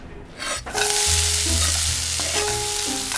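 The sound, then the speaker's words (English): Bacon and mussels sizzle loudly in a pan while beer-steamed mussels with bacon are being cooked, a dense, steady crackling hiss that starts after a brief quiet moment and continues without letup, with a faint low hum beneath it. “What are you making? Make a little beer steamed mussels with the bacon.”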